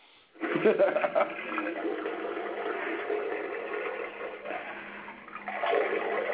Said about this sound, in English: But hey, I mean, the toilet's fixed, so I ain't got to fucking stick my hand in it to make it a flush. Well, stop breaking it. Man, these toilets are ancient.